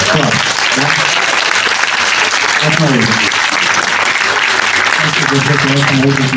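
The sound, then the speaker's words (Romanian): Steady, dense audience applause welcoming the next speaker, loud and continuous, with voices talking faintly underneath the clapping. “Următorul domn care va vorbi aici în fața mea. Aplauze!”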